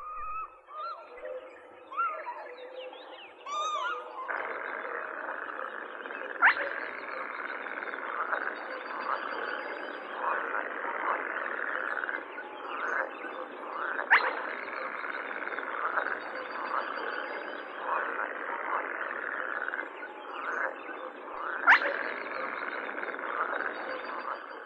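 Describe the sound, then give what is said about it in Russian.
A dense chorus of croaking frogs fills a marsh, pierced by a spotted crake's sharp, whiplike whistle repeating about every seven or eight seconds, loud and clear above the steady croaking. “Среди кваканья лягушек отрывистый посвист.”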